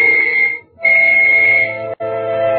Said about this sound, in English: I waited for the whistle to signal all clear.